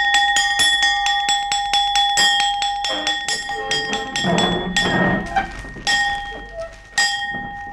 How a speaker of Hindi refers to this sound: हमारा हुक्म है आधी छुट्टी की घंटी बजा दी जाए।